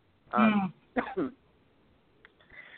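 cough

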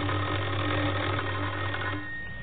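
doorbell ringing

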